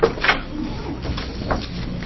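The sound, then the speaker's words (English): A door opens as a staff member comes in during a legislative committee hearing, with a soft click near the start and another muffled knock a second later over a low, steady background hum. “And our staff is coming in the door, and he will give us a background on both of these bills.”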